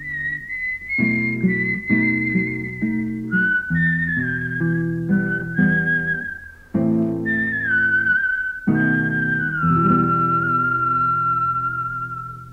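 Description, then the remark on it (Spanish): A man whistles softly as he walks away, a tune gliding through a slow, wandering melody over soft chordal accompaniment, steady throughout and easing off slightly at the very end. “tío Juan tomó la carta de Daniel y silbando bajito se fue caminando”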